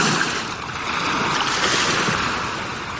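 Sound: ocean waves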